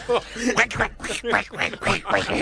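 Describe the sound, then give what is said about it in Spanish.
A person imitates Donald Duck's quacking voice, a run of raspy, sputtering, garbled syllables delivered quickly and fairly loud. “Dos interpretaciones paupérrimas del Pato Donald.”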